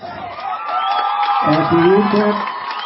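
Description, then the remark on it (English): A high school football crowd cheers loudly and steadily at a kickoff play, a dense roar of many voices with scattered whoops and shouts, swelling with deeper yells partway through before easing slightly. “All right, the cheers you are hearing was a very interesting play.”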